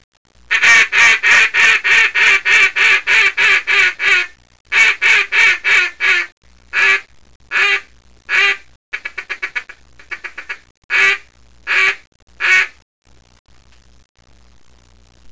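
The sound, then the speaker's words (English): A very loud acrylic cylinder double reed duck call blown in a very small room in a fast run of raspy quacks, then a shorter burst, then slower single quacks with a few stuttering chatters, ending in silence. No talking. “This is an acrylic cylinder double reed duck call.”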